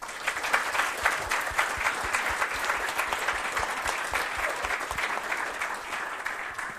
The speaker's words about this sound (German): danke ich euch auf jeden Fall für eure Einblicke und nochmal einen herzlichen Applaus.